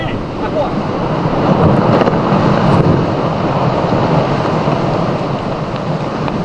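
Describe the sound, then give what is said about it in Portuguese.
Part of a huge glacier ice wall, where great glaciers meet the Strait of Magellan, collapses with a loud, continuous rumbling roar, dense and crashing, swelling briefly early on before settling into a steady wash of noise as huge chunks of ice keep falling and form waves. “Parte da parede desaba.”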